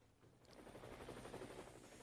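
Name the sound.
helicopter rotor sound effect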